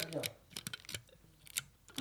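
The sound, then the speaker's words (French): A voice imitates adhesive tape being pulled off a roll, making a series of short, crackly, hissing bursts in an irregular rhythm, moderately loud. “Alors attends, le rouleau de scotch, il fait plutôt ce bruit-là.”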